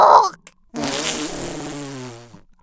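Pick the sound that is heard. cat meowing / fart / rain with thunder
fart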